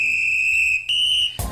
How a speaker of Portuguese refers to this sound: O apito tocou e ele voltou